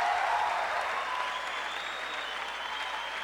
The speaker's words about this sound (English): So if you want to applaud, fine, but instead of yelling more and more and more, why don't you try sometime thinking that the musicians are here, they're hanging out, leave it up to them, and don't be assholes all the time